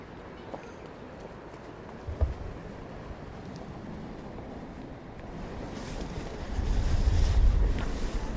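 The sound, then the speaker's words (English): Outdoor riverside ambience by the River Thames: a steady wash of water and open-air noise, with low wind buffeting the microphone briefly early on and more heavily toward the end. No one speaks. “I'm standing in by the River, River Thames, of course”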